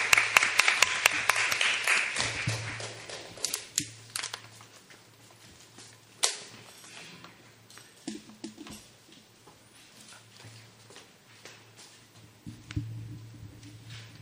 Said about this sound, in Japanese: So let's give her a hand of encouragement. 拍手で迎えましょう。